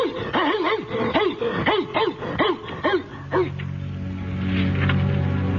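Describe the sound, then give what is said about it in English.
A dog barks in a quick, rhythmic burst of about ten sharp yaps, then the barking stops and gives way to a drawn-out, whimpering whine. “Autumn burnt the trees bare, and Dog ran still further around fording creek, prowling graveyards, as was his custom, and back in the dusk to fire off volleys of barking that shook windows with every turn.”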